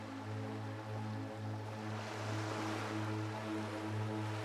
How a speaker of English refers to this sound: Picture yourself standing ankle deep in the water. Imagine the waves continuously going back and forth, swirling around your feet.